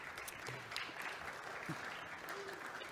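Steady applause from an audience, a dense, continuous crackle of many hands clapping at an even level throughout, with a few faint voices underneath.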